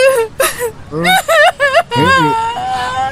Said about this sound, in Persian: اصلا من چرا دارم گریه میکنم؟ خب اون یه بیارزه بود دیگه، همین چرا دارم گریه میکنم؟